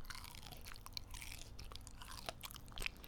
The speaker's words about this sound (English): So for today, I'm gonna take a bite of my peach and apologize again to the people who don't like hearing that kind of thing.